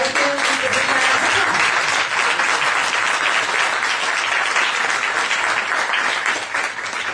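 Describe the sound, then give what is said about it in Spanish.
Sustained applause from a sizable crowd, a dense, steady wash of many hands clapping at once, loud and continuous for several seconds before tapering slightly at the end. “Bueno, pues yo creo que se merecen un aplauso, ¿no?”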